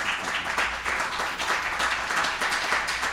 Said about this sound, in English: Nothing like bringing our own canned applause.